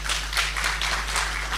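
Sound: applause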